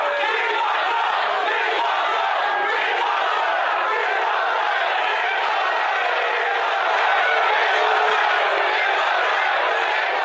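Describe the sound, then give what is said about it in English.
A large rally crowd roars continuously, many voices chanting "We want Trump" and screaming together in a dense, loud wall of sound that holds steady for the whole stretch, with no single speaker standing out. “You hear that? They're screaming, "We want Trump, we want Trump, we want Trump."”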